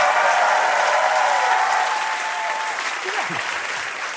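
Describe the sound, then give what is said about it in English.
An audience applauds steadily after a joke, a dense, loud wash of many hands clapping for about four seconds, with a few voices calling out over the clapping as it slowly eases. “Do you clap when you see somebody steal a lady's purse?”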